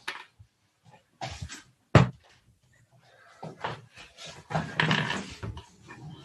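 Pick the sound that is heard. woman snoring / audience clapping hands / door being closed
door being closed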